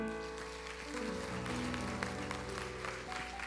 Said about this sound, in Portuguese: Aleluia, aplauda Jesus.